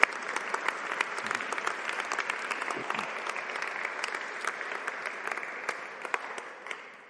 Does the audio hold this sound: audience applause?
yes